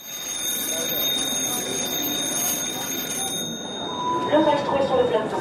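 A bright ringing chime with sustained high metallic tones, like an alarm bell, rings steadily over a busy wash of sound, with brighter flourishes near the end; the ring announces the time of Roselyne Bachelot's chronicle segment.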